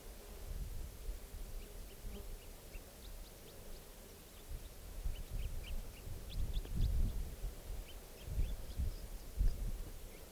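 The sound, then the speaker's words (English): A wild bird sings in short, thin, high-pitched chirps, repeated irregularly in small bursts throughout. The calls are faint against a steady low rumble and rustling noise, and no one speaks. “And this is song now, that wild bird calls there.”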